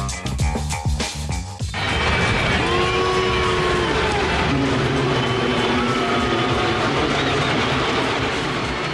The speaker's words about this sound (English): Chicago White Sox fans booing Yankees third baseman Alex Rodriguez last night.